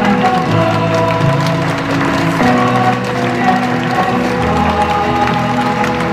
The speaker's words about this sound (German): während Schülerinnen und Schüler des Borg unter Applaus die Bühne betreten haben.